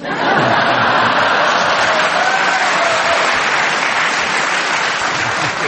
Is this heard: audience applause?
yes